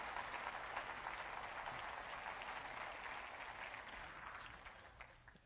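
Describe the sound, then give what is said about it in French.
An audience applauds steadily, a dense, continuous wash of many hands clapping at an even loudness for several seconds, tapering slightly at the end. “Applaudissez avec moi ce que Dieu pourrait faire.”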